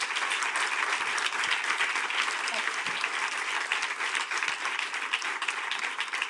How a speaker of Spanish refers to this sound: Otro aplauso para ti, que te llevas extensivo para la MANE, y mucha suerte en vuestro proceso.